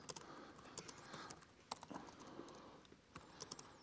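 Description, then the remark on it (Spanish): Rapid, irregular clatter of keys on a computer keyboard, with sharp clicks scattered unevenly across a few seconds of steady typing and no voices. “Se nota que no me gusta nada mi teclado.”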